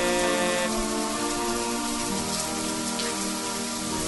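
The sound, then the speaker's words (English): Steady rain falls in a continuous, dense patter, with sustained tonal hum layered beneath it. No one speaks. “Amazing rainy day.”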